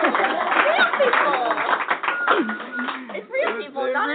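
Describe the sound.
A live studio audience at Cross Lutheran Church and School, celebrating 500 years of the Reformation, claps and cheers together, a dense, steady wash of hand claps mixed with many overlapping voices calling out, holding loud for several seconds before briefly dipping.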